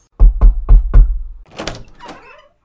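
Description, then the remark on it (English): Four heavy, evenly spaced knocks on a wooden door, loud, followed by a brief creaking scrape as the door seems to swing open. “Master, are you in there? Oh, the door is open, okay.”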